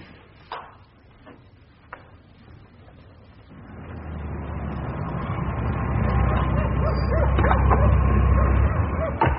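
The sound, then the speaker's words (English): A few sharp, separate dog barks ring out in the first two seconds from local police dogs in a garden with people and searchlights, followed by a steadily swelling low rumble, like an engine or crowd noise, that fills the rest. “All these people in the garden. Dogs, searchlights.”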